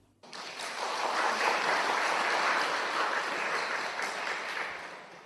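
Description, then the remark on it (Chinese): An audience at a Buddhist Pure Land dharma talk breaks into steady applause to affirm their faith, a dense, even wash of many hands clapping that starts abruptly and holds strong for about five seconds before easing slightly at the end. “好，信，鼓掌。”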